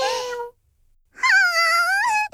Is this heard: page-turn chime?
no